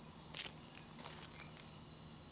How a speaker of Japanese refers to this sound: セミだ。